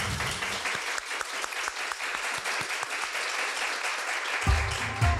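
An audience in Eskişehir applauds steadily to welcome a guest, a dense, even clatter of many hands clapping at a strong, constant level, with a brief low rumble joining near the end.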